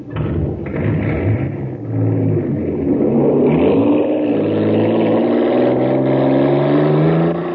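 A race engine, the Shooting Star supercharged with super fuel, roars steadily, its pitch rising and falling in harmonic sweeps as it revs and accelerates, loud and continuous throughout with no voices.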